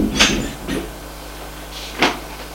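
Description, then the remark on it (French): An office door being closed: a sharp thump, a softer click just after, then a firm latching knock a moment later, with no voices and quiet in between. “Ferme la porte.”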